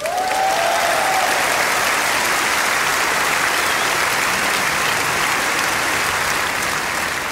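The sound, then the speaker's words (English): A crowd claps loudly and steadily for a Strauss Orchestra member who is about to play a bagpipe piece, a dense wash of applause that holds at an even level for the whole stretch, with a brief high whistle-like tone near the start. “Give her an enormous applause”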